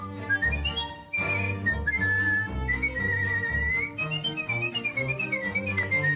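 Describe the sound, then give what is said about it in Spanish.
A young woman from Colmenarejo, Madrid, whistles a clear, skilled melody that glides and trills through a tune, with expressive pitch bends and ornaments, accompanied by steady low piano-like chords underneath; no one speaks. “Y es que esta joven madrileña de Colmenarejo lleva desde pequeña sorprendiendo a todos con su talento para silbar, pero no hablamos de silbar una melodía cualquiera, hablamos de convertir el silbido en arte, como puedes comprobar.”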